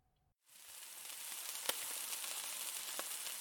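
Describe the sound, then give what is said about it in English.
Breakfast of eggs, toast and bacon being cooked, frying in a pan: after a brief silence, a steady bright sizzle hisses continuously, punctuated by a couple of sharper pops. “Okay, just sit right there and I'll whip up some breakfast right quick.”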